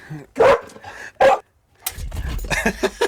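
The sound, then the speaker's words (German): A dog lets out two short, high yelping whines as it comes around the corner, followed by a burst of noisy rustling and movement with more faint dog vocal sounds mixed in. “Und da kommt unser nächster Podcast-Mitbewohner hier an der Stelle und winselt hier um die Ecke.”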